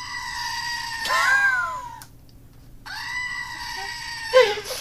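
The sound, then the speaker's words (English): A screaming goat novelty toy, its button pressed, lets out two loud, nasal, wavering bleat-screams separated by a brief silent pause, with no talking. “every time someone turns in late and he gets frustrated, he's just going to press the goat”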